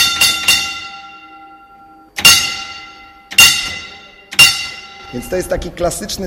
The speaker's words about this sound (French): C'est un signal sonore classique pour la cage d'ascenseur qui sert à descendre et remonter les mineurs. Chaque coup de cloche a une signification. Un coup, ascenseur stop. Deux coups, ascenseur vers le haut. Trois coups, ascenseur vers le bas.